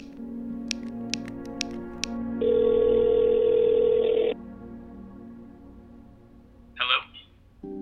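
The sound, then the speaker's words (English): A phone dials on speakerphone to call a number from a scavenger hunt: a few quick keypad clicks, then a loud, steady mid-pitched tone for about two seconds, followed by quiet and a brief crackly burst. “So are you gonna call the number? The one from the scavenger hunt? Oh, right. Let me use your phone. I'll put it on speaker.”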